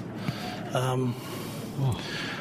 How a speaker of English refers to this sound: It's really breathing. He does a lot of breathing. Congratulations, breathing.